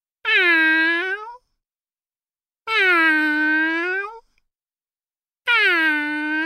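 Three drawn-out, gently falling meows, each about a second long with short pauses between, sung by a human voice imitating a cat meowing softly, clear with no other sounds.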